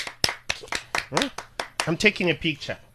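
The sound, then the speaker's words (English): A steady run of sharp hand claps, roughly three or four per second, with voices talking over the second half of the applause. “Clap your hands”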